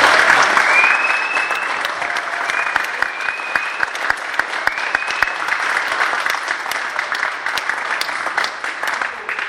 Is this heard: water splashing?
no